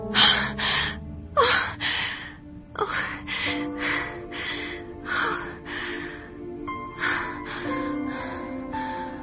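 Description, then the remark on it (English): Heavy, ragged breathing of a man: a rapid series of loud, gasping inhales and exhales in an uneven rhythm, continuing steadily for several seconds with no talking. “He's breathing!”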